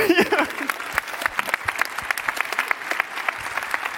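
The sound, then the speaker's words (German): An audience claps steadily, a dense patter of many hands sustained throughout, with a brief voice-like sound at the very start, applauding the fourth-place finisher of a contest, who scored 13.6 points. “Auf Platz 4, die Stufe unterm Treppchen, haben wir mit 13,6 Punkten und einen kräftigen Applaus hat das verdient,”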